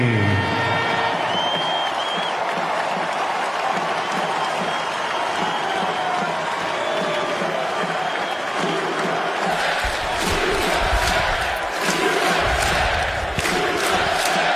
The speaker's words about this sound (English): Let's honor that old boy with the applause that he gets here.